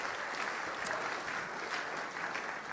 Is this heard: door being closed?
no